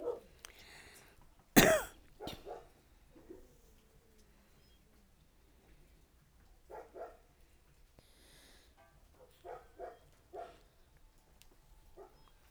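A sharp, loud cough bursts out early, followed quickly by a second, then several softer, scattered coughs come at irregular intervals through a mostly quiet stretch with no talking.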